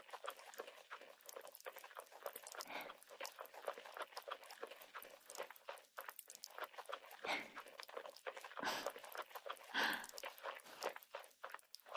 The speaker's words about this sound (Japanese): パチパチパチパチって弾けた音聞こえたかしら。これは泡は泡でも炭酸の泡。ほら、もう少し聞かせてあげる。